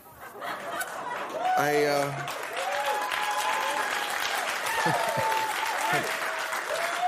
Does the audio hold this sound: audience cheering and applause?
yes